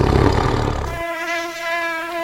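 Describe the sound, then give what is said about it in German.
A tiger mosquito's thin, high-pitched whine hums steadily and evenly after a short burst of rushing noise at the start. There is no talking. “Im Tessin haben sich die Tigermucken angesiedelt, niedergelassen, aber in der Zwischenzeit verbreitet sich die Muckenart.”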